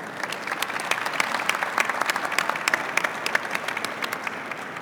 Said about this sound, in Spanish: Recibamos a nuestro distinguido panel con un fuerte aplauso.